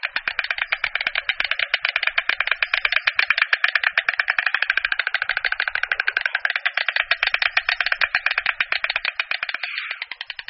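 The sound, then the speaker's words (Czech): A white stork clatters its bill in a fast, steady wooden rattle of dry knocks, sustained for about ten seconds before slowing and trailing off at the end. “Čápy se tímto klapáním ozývají nejčastěji po příletu na hnízdo.”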